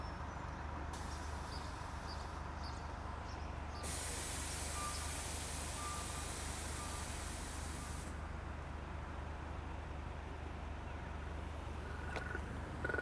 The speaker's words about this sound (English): That is the vibrating rumble pack in the pole itself, which I just leaned down and got close to so you could hear it.